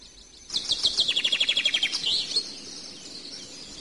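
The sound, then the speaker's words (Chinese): A small bird in the mountains, where a monk is calling birds down to eat rice, sings a rapid, bright trill of about a dozen evenly spaced high chirps, clear, then a few softer tweets trail off into quiet outdoor ambience. “小鸟们快下来啊，这儿有米好吃啊。”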